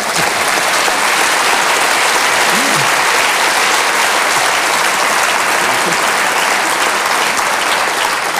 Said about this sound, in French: Et figurez-vous qu'en 5 mois, ils ont fait plus de 100 000 entrées en France. Et je crois que là aussi, on peut les applaudir.